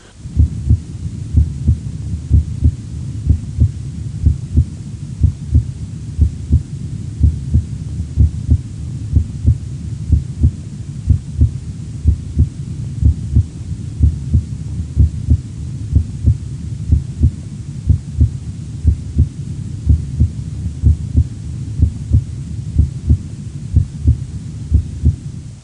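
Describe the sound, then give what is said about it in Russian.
Steady heartbeat heard through a stethoscope at the tricuspid auscultation point by the xiphoid process, a regular rhythm of paired thumps with the first heart sound louder, tones slightly quieter than at the apex, over a low constant hum and no talking. “Аускультативная картина здесь близка определяемой на верхушке, однако громкость тонов несколько меньше. Обратите внимание на преобладание громкости первого тона.”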